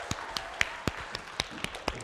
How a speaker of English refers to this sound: Awesome. Give … a round of applause. Woo!